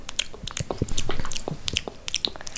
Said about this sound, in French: Slip, slap, Gobi avale l'araignée.